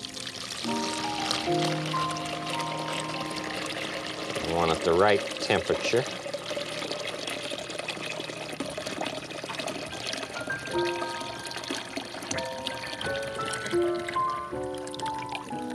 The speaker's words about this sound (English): This aquarium needs some water. Just a little bit of water. So since it's a little bit, I can use the tap water with this bucket.